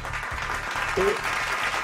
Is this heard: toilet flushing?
no